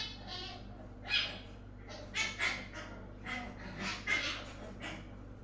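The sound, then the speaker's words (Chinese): A small dog yaps repeatedly, a run of short, high-pitched barks in an irregular rhythm, moderately faint as if from a little distance, over a low steady background hum. “可能是邻居家养的小土狗，公子不用害怕。”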